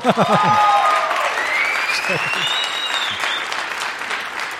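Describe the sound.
An audience applauds steadily, a dense wash of clapping with a few whistles and cheers rising over it, while voices call out briefly at the start.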